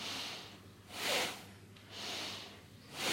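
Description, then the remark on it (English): Steady, rhythmic nasal breathing during a breathing exercise, starting slowly, each airy inhale and exhale rising and falling about once a second, fairly soft, with no talking. “Starting more slowly, breathing through the nose.”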